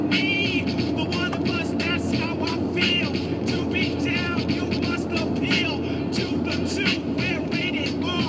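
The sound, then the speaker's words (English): A motorcycle rumbles past, its engine roar loud and steady throughout, with voices talking over the noise. “Get over and let this motorcycle that is probably a cop pass.”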